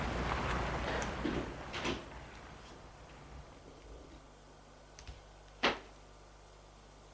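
The heavy entrance door of an apartment building is opened for a police officer after he uses the intercom, with a sustained scraping, rattling noise over the first couple of seconds, followed by a few sharp clicks and a single loud clunk near the end.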